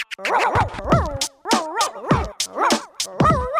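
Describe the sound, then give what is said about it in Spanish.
A dog yelps and barks in a rapid series of short, high bursts, about half a dozen in quick succession, fairly loud with no other voices. “Yo soy un perro. Disfruto del momento. No me gusta estudiar. Solo quiero jugar. Correr por todos lados. Ladrar y cesar.”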